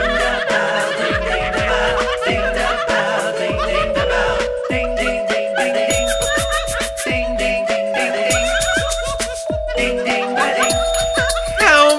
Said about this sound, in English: How's the bell? Ding the bell, ding, ding the bell.